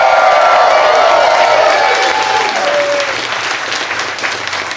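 A live audience at Esther's Follies on 6th and Red River in Austin, Texas, during South by Southwest, claps steadily in a dense, sustained wash of applause, with a few cheers and whoops mixed in, the clapping gradually easing slightly toward the end.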